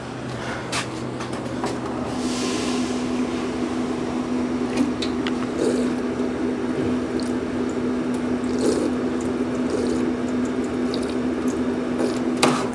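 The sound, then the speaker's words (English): A steady stream of water runs from a drinking fountain at Hatton Park, splashing continuously, with a sustained tonal hum running beneath it and faint outdoor background noise throughout. “Good water break. So, as I walked up to the water fountain,”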